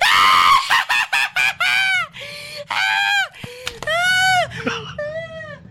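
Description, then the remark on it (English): A person screams loudly in a rapid series of short, shrill cries, then several longer wailing shrieks that rise and fall in pitch, with brief gaps between them. “The same way I want you to scream.”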